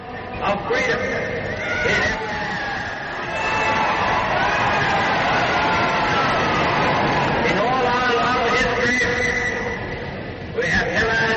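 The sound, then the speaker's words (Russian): A large crowd shouts and cheers a victory speech continuously, a dense roar of many overlapping voices with rising, wavering yells that swell and stay loud throughout. “Раздаются крики.”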